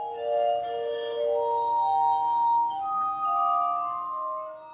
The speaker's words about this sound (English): playing the glass harmonica